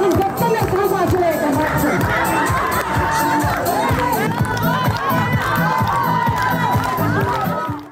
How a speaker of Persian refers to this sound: این آهنگی که میشنوید یا این هل هل و شادی مربوط به جشن در حیات زندان زنان قرقیزستان است.